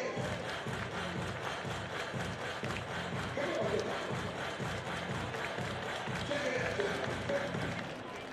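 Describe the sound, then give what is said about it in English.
A small crowd at a Wednesday day baseball game in Sacramento, many fans sitting in the shade of the ballpark's top rows, murmurs steadily throughout, a low, even hum of scattered voices with no big cheers or applause breaking through. “Small crowd here at Sacramento for this Wednesday day game.”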